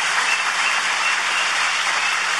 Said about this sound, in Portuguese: Mas todo o processo foi discutido e dirigido, organizado pelo Ministério dos Povos Indígenas aqui da ministra Guajajara, a quem eu queria pedir uma salva de palmas a toda a sua equipe.